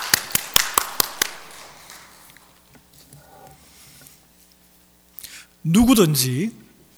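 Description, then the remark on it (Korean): An audience claps together in unison, about six sharp, evenly spaced claps in quick rhythm, then the room falls quiet before a voice briefly speaks. “자, 같이 우리 박수라.”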